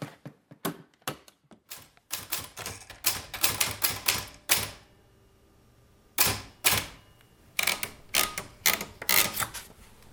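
Crisp typewriter keystrokes clack in quick, irregular bursts on a typewriter sitting on a little table in a kitchen, pausing briefly midway before the typing resumes. No one speaks.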